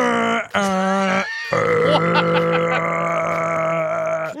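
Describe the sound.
A person trying to sing in a low voice grunts out a sustained, droning tone with a brief pause, sounding like a rough burp impression, held loud for several seconds.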